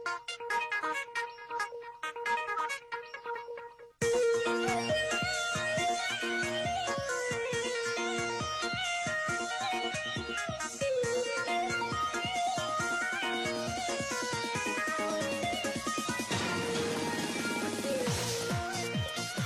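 An instrumental radio show transition interlude that opens with a soft, sparse melody, then bursts into a loud, full arrangement after a few seconds and plays on steadily with no voices.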